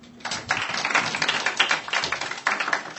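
An audience breaks into applause after a brief quiet moment, welcoming a speaker introduced for a talk on network security and passive network attacks, a dense, steady patter of many hands clapping that holds for a few seconds without any talking.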